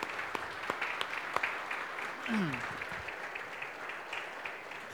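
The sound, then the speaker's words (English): An audience applauds its worship team and a special guest, a dense, steady wash of many hands clapping at moderate volume with a few sharper claps standing out, and a brief falling vocal whoop or call partway through. “So now, if you could join me in giving our worship team a round of applause and our special guest for the day.”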